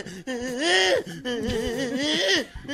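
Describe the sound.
A man vocally imitates the frantic, panicked whimpering of someone running from a big dog and about to be bitten: two long, wavering whiny wails, fairly loud, with rising and falling pitch and brief catches between them.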